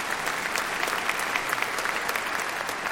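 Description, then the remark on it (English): People clap steadily for God, a dense, even wash of many hands striking together for a few seconds with no voices standing out. “Now, yeah, you can clap for God.”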